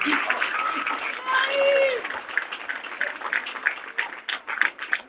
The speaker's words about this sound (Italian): salutiamola con applauso per il suo intervento passionale ed accorato.